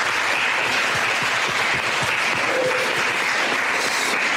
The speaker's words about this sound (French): Bien, on va s'applaudir pour cette deuxième session. Merci.